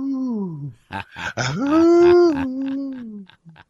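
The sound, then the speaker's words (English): A person imitates a wolf howl: a falling wail, a few choppy vocal bursts, then a long, loud, sustained howl that slowly trails off. “I think we should visit Crooked Eye, and then we'll come back and howl at the moon with that wolf. Howl at the wolf.”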